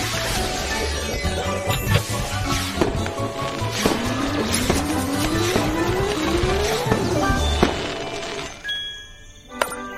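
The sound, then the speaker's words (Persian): A race car engine roars and revs through rising gear shifts, loud, with tires squealing over the din before the noise drops away and a sharp clank sounds at the end. “ماشینمون برای ماجراجویی آماده است.”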